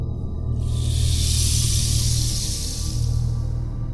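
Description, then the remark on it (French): Thirty live venomous snakes hiss in a huge cauldron in a fireplace, one long, steady rush that swells in after a moment and fades near the end, over a constant low, bubbling rumble like a cauldron on the boil. “80 queues de rat, 126 yeux de grenouille, 200 litres d'eau croupie, 30 serpents venimeux bien vivants.”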